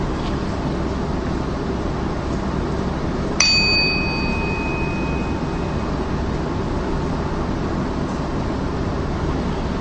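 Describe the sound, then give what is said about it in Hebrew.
A single meditation bell is struck once to begin a seated meditation, its clear metallic tone ringing out and slowly fading over a few seconds against a steady low background hum. “נתחיל בצלצול פעמון וגם נסיים כך.”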